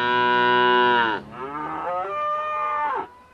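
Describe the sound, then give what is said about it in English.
Cattle moo loudly in a cow pasture at Treasure Hammock Ranch, among at least 100 cows, calves and a couple of bulls: one long sustained bellow followed by a second wavering moo from another animal, with no talking. “Soon, we're surrounded by at least 100 cows, calves, and a couple of proud bulls.”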